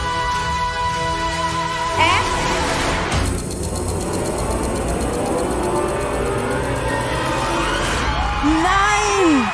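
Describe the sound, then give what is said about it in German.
Alessandra Mussolini cheers and whoops loudly on winning Grande Fratello VIP (Italian Big Brother), raising her hands in the air, over a noisy, excited crowd and bright music, her voice rising in long yells of joy, with a sharp high burst of shouting near the end. “Sie jubelt. Sie reißt die Hände in die Luft.”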